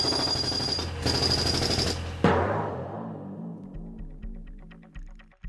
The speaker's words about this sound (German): Ich hab einen Bohrer. Wie Bob der Baumeister.